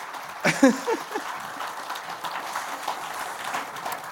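Steady applause from a group, a dense crackle of clapping that carries on throughout at moderate volume, with a brief vocal exclamation near the start.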